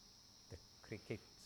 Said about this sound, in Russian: Сверчки, мягкие, свежие ароматы, очень умиротворенная атмосфера.